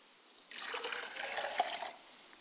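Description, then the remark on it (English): Libation liquid poured out to the east during a ritual, in a steady trickle for about a second and a half, a soft splashing stream with a small spatter near the end, then it stops. “As we release those souls into the atmosphere, we pour libations to the east and we say, Ashe.”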